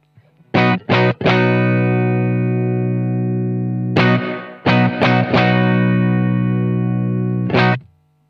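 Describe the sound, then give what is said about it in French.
A distorted electric guitar plays loud chords with reverb added on the amp, a few quick stabs followed by long ringing sustains, with a reverb tail trailing each chord. No one speaks. “Donc, je peux ajouter de la réverb au niveau de l'ampli. Allez, faisons ça.”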